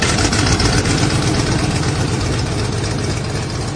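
Aircraft engines being started as a plane prepares to take off, a loud, steady roar with a deep rumbling low end and broad hissing wash that holds throughout, with no voices.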